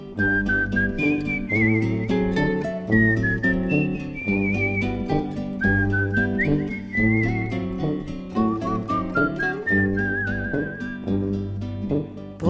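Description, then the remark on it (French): A melodic whistled tune floats clearly above a steady, rhythmic musical accompaniment, the whistling wandering through short phrases with a gentle vibrato for the whole stretch. “Je somnole à jouer les rossignols, sifflotant mes refrains pour rien.”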